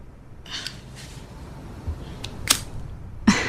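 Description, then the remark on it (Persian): A lighter with no fuel is flicked over and over, giving short, dry scraping clicks at uneven intervals, fairly quiet, with no flame catching and no voices. “ای بابا فکر کنم فندکش بنزین نداره.”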